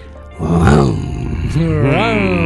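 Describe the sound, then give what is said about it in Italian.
A man's voice imitates a lion's roar for the horoscope sign Leo, in two growling, drawn-out bursts with rising and falling pitch, loud, with no words spoken. “Leone, solo questo va detto in leonese.”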